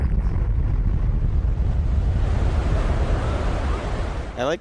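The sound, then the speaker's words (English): A tsunami wave sound effect used as a radio show drop: a loud, steady rushing roar of surging water with a heavy low rumble, cut off at the end by a brief warbling tonal sweep. “Give us that terrible tsunami drop already”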